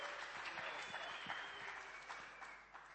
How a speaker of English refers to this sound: But he's going to give his testimony today, so let's give him a big clap and welcome as he comes forward.